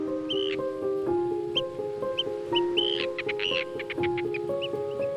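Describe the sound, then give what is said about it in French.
An arctic tern calls repeatedly with harsh, rasping cries in quick, loud bursts over a background of sustained, held musical tones. “Si elle était un oiseau, Élise Rousseau, notre invitée cette semaine, serait peut-être une sterne arctique, dont on a entendu le cri, le chant.”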